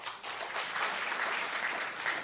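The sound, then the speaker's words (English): Steady applause from a comedy show audience, those who don't smoke weed at all clapping, a dense patter of many hands at a moderate level with no voices over it, holding fairly even for a couple of seconds. “I mean, I know that, like, my comedy show gets a more weed crowd than, like, applaud if you don't smoke weed at all.”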